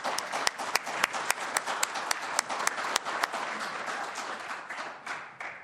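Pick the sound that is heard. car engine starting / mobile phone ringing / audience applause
audience applause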